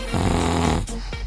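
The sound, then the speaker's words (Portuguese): A single loud, raspy snore rumbles for most of a second, low and buzzing, then breaks off into a couple of short, breathy snorts. “Você tá dormindo?”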